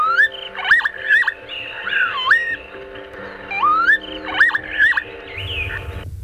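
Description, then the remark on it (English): Lapwing calls: repeated wheezy, swooping whistles that rise and fall in pitch, given in bursts with short gaps, ringing out alone over a low background hum. “They're local names for this bird from around Europe, based on the bird's unique, alien-sounding call.”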